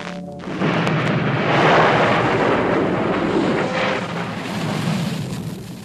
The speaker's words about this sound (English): The Turkish fleet is routed by a great storm.